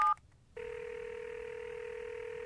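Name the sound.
telephone being dialed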